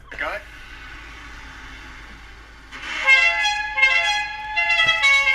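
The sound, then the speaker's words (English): A bus hooter horn blares in a few loud, rich-toned blasts, rising after a quieter stretch of background rumble, the toots pulsing in quick succession. “So I just want to just play a quick clip of what the bus is actually sounding like.”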